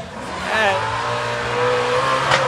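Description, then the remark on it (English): Cars drag racing on Woodward Avenue roar along the street with engines revving and a brief tire squeal, loud, steady traffic noise throughout with a voice faintly underneath. “We're watching cars get squirrely here on Woodward Avenue, drag racing on the street as we do this.”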